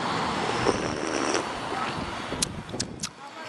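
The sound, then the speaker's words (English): Someone slurps a hot coffee with one sugar and three cream in a long, airy, hissing draw lasting a few seconds, followed by a few short, sharp sucking bursts toward the end. “I'm recording the audio right now so everyone out there can hear me slurp.”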